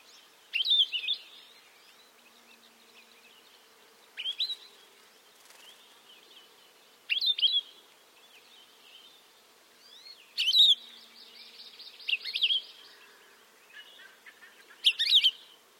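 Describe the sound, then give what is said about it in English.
A Palila, a Hawaiian honeycreeper of Hawaii, calls several times, bright chirping whistles arriving in short bursts every few seconds, clear against a quiet, faintly buzzing background with no voices. “As with other Hawaii birds, Palila bears a Hawaiian name that is meant to evoke its call.”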